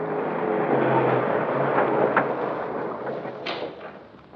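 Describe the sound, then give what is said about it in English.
A steady, dense rumble of a car in motion, with a low engine hum and broad road noise, punctuated by a couple of brief knocks before it gradually fades. “I was being taken for a ride. And a long one. A silent one. Once we got in the car, Trubus stopped talking, and I was not in the mood to make any conversation.”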